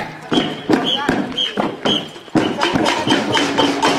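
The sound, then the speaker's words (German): A samba drumming band plays at a demonstration in Roșia Montana against an expropriation law, with several hundred people dancing: loud, steady drum hits in a driving rhythm, with bright, high-pitched accents ringing over it and a murmur of crowd voices underneath. “An der Demonstration tanzten mehrere hundert Menschen zu den …, die ihr im Hintergrund hören könnt.”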